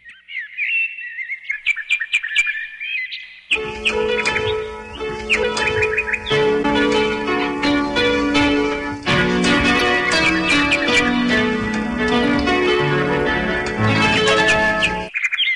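Bird-like whistled chirps and trills open alone for a few seconds, then a full instrumental arrangement swells in, loud and steady, with sustained melodic lines over a warm, rhythmic backing and no singing.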